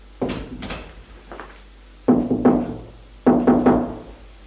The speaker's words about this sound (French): Il vient tout juste d'entrer que l'on frappe à la porte.